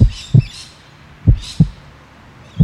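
Deep, muffled heartbeat thumps of a cold-blooded animal, slowing as it cools in cool temperatures, arrive in paired lub-dub beats, slow and evenly spaced, with faint high chirping sounds drifting above them.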